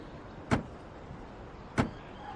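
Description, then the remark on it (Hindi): A door being opened, heard as two sharp clicks about a second apart, like a latch and handle releasing, over a quiet room hum with no one talking. “आपको बुरा लग गया क्या, मुझे दरवाजा खोलने दीजिए। छोड़िए, मैं खोलता हूँ।”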